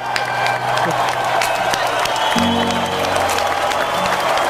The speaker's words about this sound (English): The crowd goes wild.